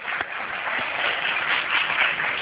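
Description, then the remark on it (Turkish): An audience at a show claps for the young performers, steadily for a couple of seconds, a dense, even patter of many hands with no voices standing out, holding at a moderate level throughout. “Alkışlayalım kendilerini.”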